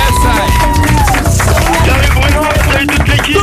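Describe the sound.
A crowd claps and cheers loudly and steadily for the whole few seconds, a dense wash of applause with shouting voices and some tonal sounds mixed in.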